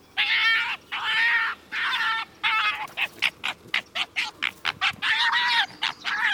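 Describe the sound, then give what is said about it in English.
A fox approaching carrion in a pasture, drawn by the smell of the corpse and waiting its turn to eat, gives harsh, high-pitched shrieks: a few drawn-out, wavering wails, then a rapid run of short, sharp yelps before more long cries. No one speaks. “Drawn by the corpse's smell, he grunts and sighs with a shriek while waiting his turn.”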